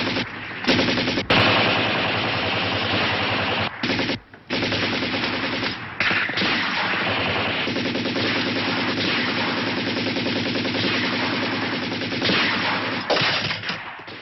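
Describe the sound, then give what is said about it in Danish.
A loud, sustained firefight between Germans and Yugoslav partisans from the 1974 Yugoslav feature film Partisani: rapid machine gun bursts rattle almost without pause, mixed with scattered single gunshots and brief gaps, with no voices over the dense, harsh crackle. “Ja, det vi hører her, det er en ildkamp mellem tyskere og jugoslaviske partisaner.”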